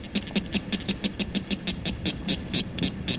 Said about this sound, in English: Here, this little guy's call may not carry that far, but it's the northern cricket frog.